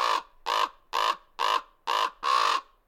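A common raven calls six times in a steady series of harsh, croaking caws, each about a third of a second long, loud with short gaps between them and no other sounds.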